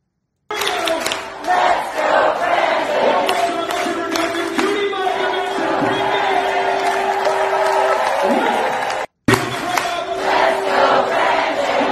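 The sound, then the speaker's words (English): A large church crowd at the Reawaken America conference shouts and roars together in sustained, loud unison, voices rising in a chant-like cry with scattered whoops, briefly cutting off near the end before the shouting resumes. “So here's a church, right? Here's a church shouting that.”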